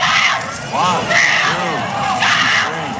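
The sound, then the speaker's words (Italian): A girl yells in loud, rising bursts at a frog during a frog-jumping contest amid a noisy, cheering crowd, her shouts repeated several times over a constant roar of voices. “Urla, e in base a quanti salti riesce a fare, credo sia una pista”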